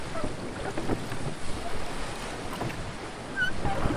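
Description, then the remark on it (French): Gentle, calm sea water laps and splashes steadily around a small sailing boat with its mainsail hoisted, a continuous soft wash with light wind noise and occasional faint creaks, no voices present. “Elle hisse la grand voile et guide le bateau sur une mer calme et prometteuse.”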